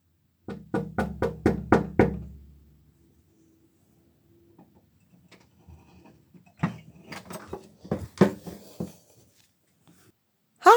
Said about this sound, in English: Okay, I'm going to knock now. Here goes.